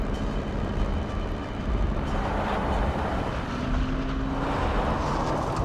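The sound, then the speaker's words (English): A car engine roars loudly and steadily as a girl drives the car off at speed, a dense rumbling drone with a brief rising whine partway through, with no voices. “They stop as she speeds off ahead.”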